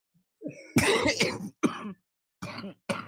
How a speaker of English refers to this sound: She gets excited. That's a good cough. He just makes me. Why every time that you get excited, you do that? I always cough when I get excited.